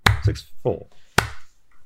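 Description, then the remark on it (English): A few slow, sharp hand claps in a slow Willy Wonka-style clap, spaced unevenly, with a short murmur of voice between them and a longer pause before the final clap. “Was that a slow Willy Wonka clap”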